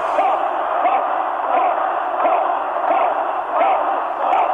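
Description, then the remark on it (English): A crowd chanting "Hoff" in a steady repeated rhythm, roughly one shout per second, loud and continuous, at an event hosted by the Hoff, with a thin, band-limited phone-line quality from a voicemail recording. “That's our shouty Hoff, Hoff, Hoff.”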